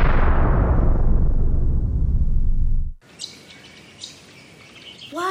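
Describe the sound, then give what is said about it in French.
A garden scene opens with a rushing, whooshing swell that cuts off abruptly, then gives way to scattered bird chirps and tweets with soft ambient background, a few brief calls standing out clearly. “Oiseaux et fleurs de mon jardin, feuillis, feuillus, fauvettes, transporte-nous et montrez-nous vignes, vergers et verdure.”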